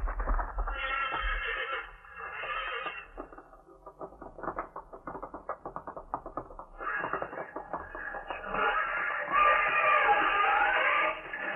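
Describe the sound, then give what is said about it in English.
Horses, one of them named Thunderhead, squeal and whinny loudly while fighting, with shrill, strained neighs over a rapid scuffle of stamping hooves and thuds, ending in a long, piercing scream. No voices are heard. “His horse! Watch his horse, Thunderhead! Get up and fight!”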